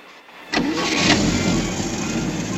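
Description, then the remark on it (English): After a moment of near silence, a car engine cranks and catches with a sudden burst, then settles into a steady, rumbling run as it begins to pull away. No voices. “Say, isn't that your car, Eugene? That's my car.”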